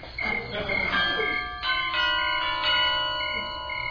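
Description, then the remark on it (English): A bell at a home's door rings at 4 o'clock in the morning in several quick, overlapping strikes, its bright metallic tones sustaining and shimmering as they fade slowly. Loud, with no voices present. “Make a note, that bell has got to go.”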